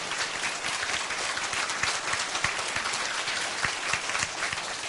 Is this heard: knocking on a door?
no